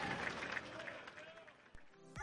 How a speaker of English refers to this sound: Take a listen to that round of applause.